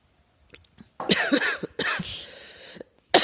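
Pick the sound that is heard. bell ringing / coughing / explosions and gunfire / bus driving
coughing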